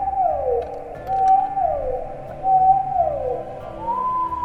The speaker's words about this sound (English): Sometimes, some groups of sounds made by certain populations of whales are repeated in a recognizable pattern which we can identify as coming from a certain population. We call those whale songs, and these vary from population to population.